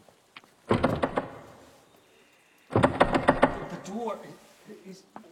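A door rattles and thumps in two loud bursts separated by a short pause, the second burst trailing off into fainter creaks and shuffling.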